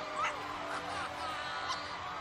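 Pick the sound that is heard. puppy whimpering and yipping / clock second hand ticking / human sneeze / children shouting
puppy whimpering and yipping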